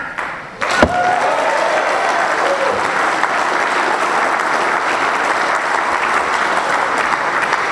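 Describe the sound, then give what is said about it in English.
A Narcotics Anonymous audience bursts into loud, sustained applause for NA after a sharp opening clap, the dense clapping holding steady for several seconds without letting up. “We should give NA a clap.”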